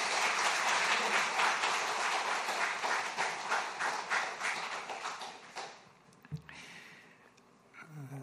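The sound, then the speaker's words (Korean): A church audience applauds to welcome a pastor who will preach, with steady, dense clapping for about five seconds, then the applause thins out and fades, leaving a few scattered claps and a soft thump near the end. “큰 박수로 환영하겠습니다.”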